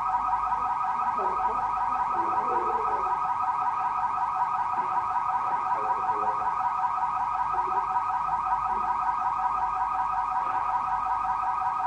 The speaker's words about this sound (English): Somebody breaking in, or is that a fire alarm?